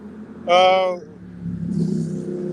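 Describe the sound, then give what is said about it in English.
A motorcycle passes outside, its engine giving a sharp, whining rev that swells briefly, then settles into a lower rumble that lingers as it moves off. “Just wanted to let that motorcycle go by.”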